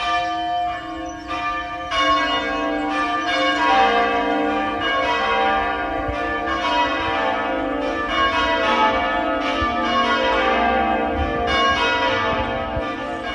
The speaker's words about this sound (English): which we call change ringing. That's a group effort with a team of bell ringers called a band. Each person holds a rope controlling a bell in the church tower overhead, and like any band, once everyone knows their part, that's when the magic begins.